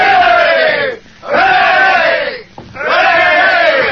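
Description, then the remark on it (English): A railroad-building crew of men roar three loud, sustained cheers for their boss, Rigger McClure, each shout swelling and then breaking off with a brief pause before the next. “Come on, fellas. 3 cheers for Rigger McClure.”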